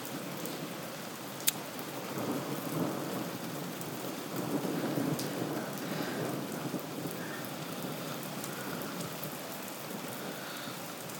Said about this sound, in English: Wow, that is serious rain. Yeah. It's been very warm, hasn't it? Probably a cool out there. Ooh. It's getting heavier again.